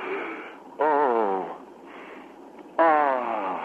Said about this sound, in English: Now, what are you doing? I'm just doing a breathing exercise